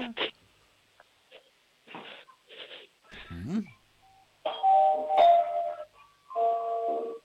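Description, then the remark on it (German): A doorbell at a front entrance door rings out a full melody of several sustained, bright tones, fairly loud, following a few seconds of scattered shuffling noises and a brief voice. “Bitte, was habt denn ihr für eine coole Türklingel? Die spielt ja eine ganze Melodie ab.”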